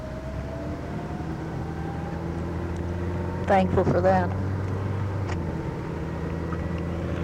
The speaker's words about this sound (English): Well, cars are chasing me up Pacific Coast. I better start going 60 miles an hour.